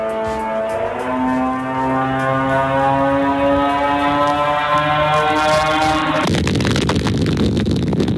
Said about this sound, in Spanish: Este es el sonido que hacen los drones Saed, que son de origen iraní. Y con ello Rusia está hostigando continuamente a la población civil ucraniana. Enjambres de estos drones han estado causando estragos en las ciudades ucranianas